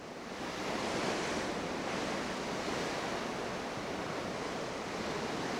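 A steady, continuous wash of ocean waves, a broad hissing roar that swells slightly early on and then holds evenly, with no voices present.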